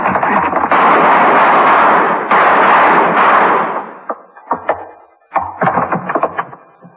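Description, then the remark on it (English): A loud, roaring gunshot blast fills the first few seconds, followed by a cluster of sharp, quick cracks and thuds as the lock gives way. No one speaks. “I'll shoot the lock and then we go in.”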